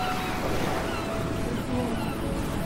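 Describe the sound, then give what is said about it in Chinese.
Water rushes and babbles steadily throughout, like a small stream flowing, with a continuous, even hiss and no pauses. “我怎么在一条小溪流里啊？”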